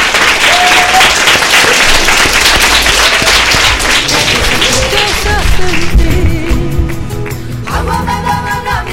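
Sustained applause from an audience, a dense crackle of many hands clapping at once, loud, with a few faint tones and voices underneath as it thins toward the end.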